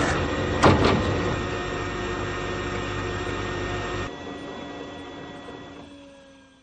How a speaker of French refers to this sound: Dans le bureau de Monsieur Peut-Mieux-Faire, il décrète que l'imprimante fait trop de bruit.